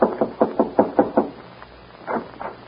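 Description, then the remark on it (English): A quick series of about seven sharp knocks on the wooden door of a lamp-lighted ranch house at night, fairly loud, followed after a short pause by two softer knocks. “Al, who is always elected to do the dirty work, is voted to knock on the door and make the necessary speech.”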